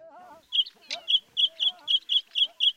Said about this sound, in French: Dans la savane, tôt le matin, Songa, le sentinelle à gorge rouge, s'époumonnait, vocalisait, s'agitait, menait grand train bruyant